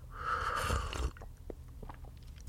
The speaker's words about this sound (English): Let me grab a sip of my coffee.